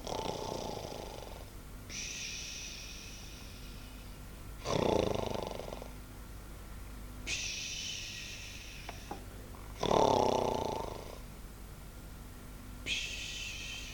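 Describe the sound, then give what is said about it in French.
Steady snoring repeats every few seconds, rough rattling inhales alternating with airy, whistling exhales, moderately loud, with no talking, from three young men sleeping. “Le vieillard ne les entendit pas plus tôt ronfler qu'il se leva.”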